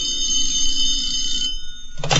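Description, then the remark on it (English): A telephone rings with a steady, bright electronic tone for about a second and a half, fairly loud, then cuts off into a burst of noise. “So when the phone rang, he wasn't surprised by what he heard.”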